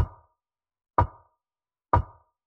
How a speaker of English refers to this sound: Wait, that tapping.